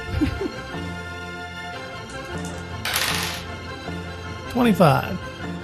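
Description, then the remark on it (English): A short hard clatter of dice tumbling across a tabletop as a critical hit is rolled in a game, about half a second of rattling, heard at a moderate level with people talking around it. “Roll your crit.”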